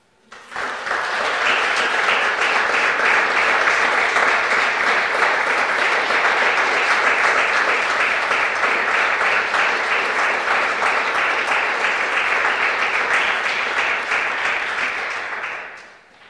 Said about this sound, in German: Vielen Dank für diesen schönen Applaus.